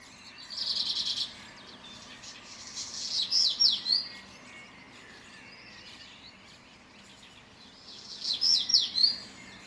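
A small songbird chirps in short bursts of bright, high tweets, three clusters spread over several seconds with quiet gaps between, moderately loud against faint background hiss.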